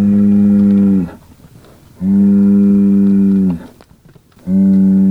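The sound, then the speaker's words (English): Criollo cattle in the desert moo three times, each call a long, loud, droning low bellow with short quiet gaps between; the last one is cut off. Nobody speaks. “Gonzalez is comparing how this group of Criollo compares to a group of Angus and Hereford crossbred”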